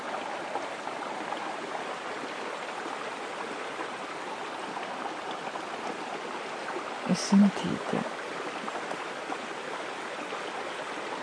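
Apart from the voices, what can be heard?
flowing stream water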